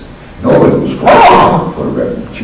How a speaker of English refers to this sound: I'm sneezing.